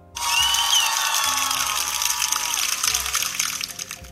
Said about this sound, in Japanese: 歓声と拍手1というボタンでした。